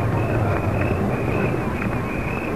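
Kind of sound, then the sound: vehicle, car approaching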